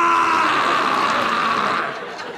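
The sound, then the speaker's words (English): A voice imitates an elephant fart heard at the zoo, with one long, loud, raspy blast held for about two seconds, steady and buzzing, then tapering off at the end. “I saw the elephant fart that day.”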